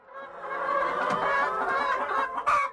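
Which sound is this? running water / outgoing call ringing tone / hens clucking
hens clucking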